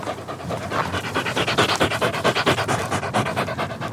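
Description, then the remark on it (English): A female dog pants heavily and rapidly after running, a steady rhythm of quick breathy huffs that keeps going without pause and with no talking. “Whoa, man, you are knackered, aren't you?”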